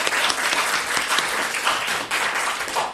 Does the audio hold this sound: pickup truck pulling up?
no